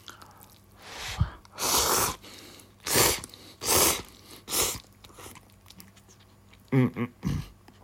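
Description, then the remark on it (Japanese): Loud chewing and slurping of curly miso ramen noodles, a series of about seven wet, noisy bursts with short pauses between them, with no talking. “それでは咀嚼音しますけど、ね、ご注意ください。”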